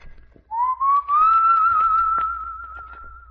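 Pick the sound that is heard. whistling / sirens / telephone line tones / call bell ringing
whistling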